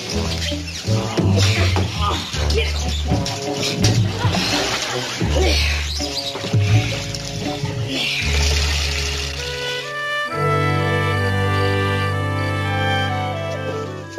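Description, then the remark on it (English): Water splashes and sloshes busily for about ten seconds as a dog, Tiger, is given a bath, over a loud musical score, then the splashing stops and the music carries on alone. “Well, afraid or not, he's got to have a good bath.”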